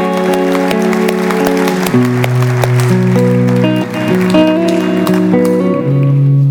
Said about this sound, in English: Let's give him a round of applause and celebration today.